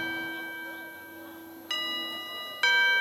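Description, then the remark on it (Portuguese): A doorbell chimes repeatedly, bright bell tones ringing out with fresh strikes about a second apart, each tone lingering and overlapping the last, clear. “A campainha não para de tocar, não.”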